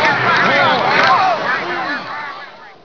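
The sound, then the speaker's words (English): A loud crowd of many voices, like a dozen football teams, shouting and cheering at once, a dense overlapping roar that stays strong for a couple of seconds before easing slightly. “Or a dozen football teams.”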